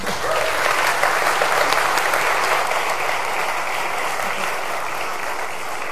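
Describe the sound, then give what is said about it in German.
Sustained audience applause, a dense steady wash of many hands clapping at an even loudness for about six seconds, with no voices standing out. “Vielleicht nochmal einen Applaus für sie.”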